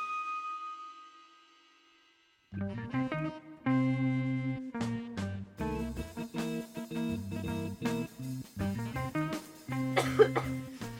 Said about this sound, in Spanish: Con esta tos les damos la bienvenida.